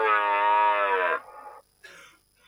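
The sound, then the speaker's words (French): A phone ringtone of a stag's rutting bellow: one long, loud, throaty bellow, followed by a couple of shorter, rougher grunting bursts, with no voices. “Sonnerie du brame du cerf.”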